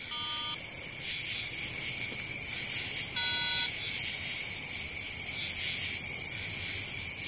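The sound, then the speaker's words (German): A telephone rings in two short electronic bursts about three seconds apart, over a steady high chirring of insects that continues throughout. No one speaks. “Jetzt gehen Sie doch ans Telefon.”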